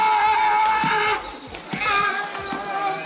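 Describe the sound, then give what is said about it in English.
A sea lion's loud, raspy honking call: one long, drawn-out blare, a brief break, then a string of shorter, uneven honks. No one talks over it. “Crazy honking noise from a sea lion, isn't it?”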